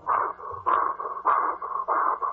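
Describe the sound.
A voice imitates wood being sawed: four harsh, raspy back-and-forth strokes in a steady rhythm, each loud and buzzing with a slight pitch rise at the start of every push.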